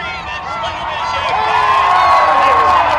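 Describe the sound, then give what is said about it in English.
A large crowd of runners shouts and whoops together at a marathon start, many voices overlapping in a loud, steady roar with a few long, high yells rising above it. “There is a lot of shouting at the start of the race.”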